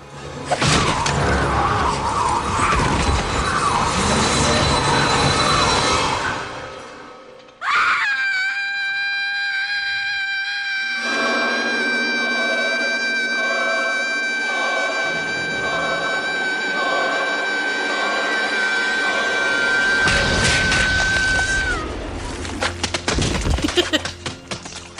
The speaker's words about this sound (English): Gushy exploding heads. Yep. So Buffy's scream kills the gentleman. Their heads explode, as we just heard.